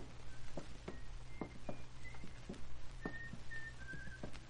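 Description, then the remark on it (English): A man whistles a faint, muffled tune from behind a closed door of a lit second-floor room, short wavering notes drifting in and out over a low steady hum and scattered soft taps. “There's light coming under the door. He's in. Hear him whistling?”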